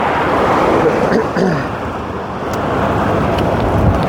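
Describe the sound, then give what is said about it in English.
Loud, steady roar of cars and trucks speeding past right next to a cyclist on a main road with a bicycle lane, a continuous rushing wash of engine and tire noise with slight swells as vehicles pass, no distinct breaks between them. “But as you can hear, cars and trucks are going really fast right next to me, so I don't like staying on this road any longer than I have to.”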